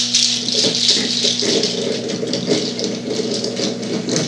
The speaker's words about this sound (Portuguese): olha, o pessoal que está indo de São Paulo, aqui está chovendo muito aqui, ó.